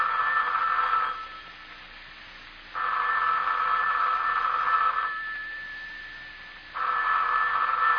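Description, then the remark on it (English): A telephone rings in three long, steady bursts separated by short silent gaps, loud, with a bright electronic buzz and no voices. “the telephone's ringing. Aren't you going to answer it?”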